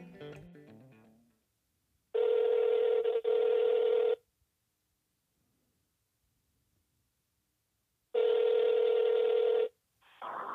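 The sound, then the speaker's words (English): Ringback tone of an outgoing phone call: two loud, steady electronic rings separated by several seconds of silence, with a brief burst of dialing beeps just before, and nobody picking up. “I'm gonna give her a call.”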